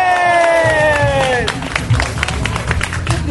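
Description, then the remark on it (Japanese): An audience at a live event bursts into clapping and cheering as the host asks about holding the next Dafu 6 event, with a rising-then-falling shout of "yay" at the start giving way to steady, dense applause that keeps going to the end. “はい、まあ、拍手した人のね、2割ぐらい来ると思うんで、次回僕やりたいと思いますけどもね。”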